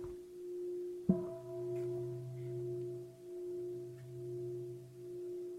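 A single bell is struck once, then rings on in a long, steady low hum whose loudness gently pulses and wavers as it sustains. No one speaks.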